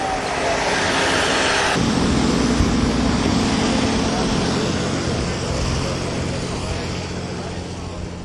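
A couple of tour buses roll in along the road, their heavy diesel engines producing a loud, steady rumble with a broad whooshing roar throughout.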